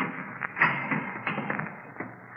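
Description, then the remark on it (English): A heavy door latch turns with a few dull metallic clunks and taps spread over a couple of seconds, fairly muffled, against a low steady background hum. “I glanced at my watch at 11:15, and right after that, I heard the heavy latch on the door being turned.”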